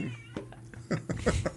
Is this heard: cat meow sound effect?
yes